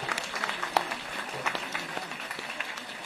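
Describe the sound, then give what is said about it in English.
An audience at a panel event applauds a panelist, a dense wash of many hands clapping at an even, moderate level for a few seconds, with no voices standing out. “Guys, come on. Big applause.”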